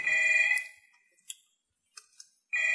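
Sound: telephone ringing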